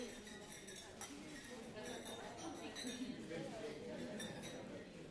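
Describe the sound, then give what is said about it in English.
Glasses clink repeatedly in a toast at a National Governors Association gathering, bright overlapping chimes scattered over a few seconds amid the steady murmur of a crowd talking. “So tonight I simply would like to propose a toast to the families that support us, to the citizens that inspire us, and to this exceptional country that has given us so much.”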